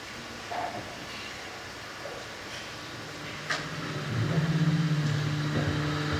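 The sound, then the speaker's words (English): A ship's motor drones low and steady beneath a constant wash of rushing water noise, with the far off sound of brackish water being pumped back into the North Sea; a brief knock sounds midway, then the engine's humming tone swells louder toward the end. No voices. “So listening to the water we hear thrown up the ship's motor, the weight of single doors, the far off sound of 90,000 meters of brackish water being pumped back into the North Sea each second.”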